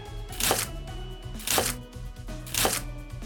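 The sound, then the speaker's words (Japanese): A kitchen knife chops a Munitake mushroom into bite-sized pieces in three crisp, evenly spaced cuts about a second apart, clear over soft, steady background music, with no one speaking. “ムニタケを包丁で手頃な大きさに切っていくにゃ。”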